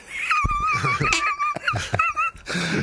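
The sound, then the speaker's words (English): A squeaky rubber duck toy is squeezed over and over, giving a run of loud, high-pitched wheezing quacks with short gaps and a few soft thumps between squeezes. “Yeah, that sounds like a duck.”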